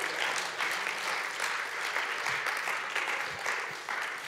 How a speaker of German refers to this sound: Hey, merci vielmals. Herzlichen Applaus.